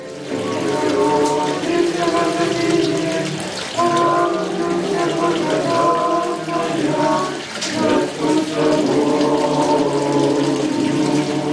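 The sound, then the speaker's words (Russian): Steady, continuous murmur of flowing water from a holy spring in an ancient underground crypt of a church fills a reverberant space, with soft, indistinct voices or tones humming faintly underneath throughout. “Но, несмотря на множество людей, кажется, что молитвенную тишину храма нарушает только журчание воды.”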